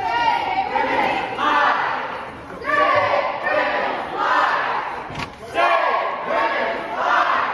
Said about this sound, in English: Those are not chants from protesters. Those are chants from House Democrats. And they were followed by chants of shame that continued on for several minutes.